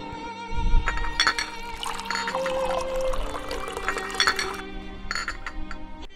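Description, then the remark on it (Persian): An old man pours tea that streams steadily into glasses with a bubbling, rising gurgle, punctuated by a few light clinks of glass, over a low background hum. “بچه ها نگاه کنید، این پیرمرد چقدر با عشق چای می ریزه، انگار داره برای امام می ریزه، نه برای ما.”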